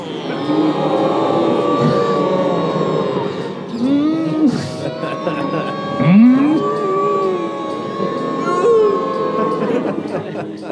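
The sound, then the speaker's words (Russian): A chorus of human voices imitates plaintive cow mooing, with overlapping, drawn-out moans that swoop up and sag down in pitch, rising and falling in loudness over a steady murmur. “Хор жалобного мычания разнесся над Вриндаваном.”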